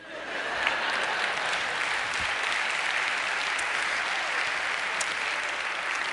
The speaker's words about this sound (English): You shouldn't clap over that